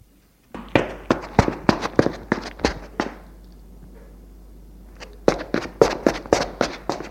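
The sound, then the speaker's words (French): Crisp footsteps on a hard floor as a maid walks away, a steady run of about a dozen clicking steps, a few seconds of quiet, then another brisk series of steps, clear. “La bonne s'éloigne.”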